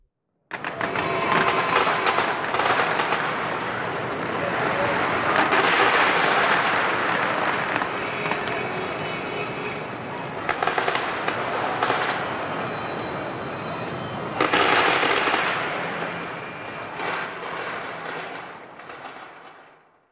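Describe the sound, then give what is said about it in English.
Fireworks explode continuously in a dense, crackling barrage, with several louder bursts around five, ten and fifteen seconds. The roar is loud throughout, and no voices are heard. “They watch the beautiful fireworks exploding.”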